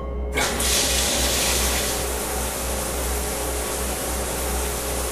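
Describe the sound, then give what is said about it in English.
A steady, loud rush of spraying water, the rinsing stage in a telephone booth-sized decontamination chamber, starts abruptly and continues evenly, with a low mechanical hum underneath and no voices. “Please enter the chambers. Stage 1, rinsing.”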